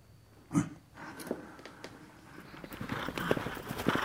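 Horse hooves clip-clop at an unhurried walk as a rider travels on horseback, a steady run of hollow knocks over a light outdoor background, moderately loud, with no one speaking.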